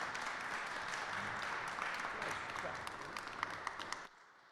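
A crowd applauds steadily for about four seconds after a song performance at a State House program, dense overlapping claps, then the clapping cuts off abruptly into quiet.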